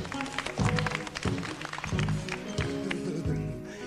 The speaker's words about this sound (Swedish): Vi ger dem en liten handklappning.